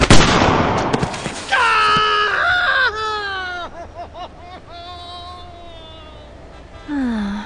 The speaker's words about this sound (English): You shot my toe off!